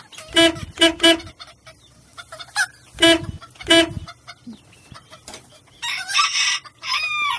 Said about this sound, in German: Ja, put, put, put. Ja, jetzt sitzt ein Huhn vor ihm.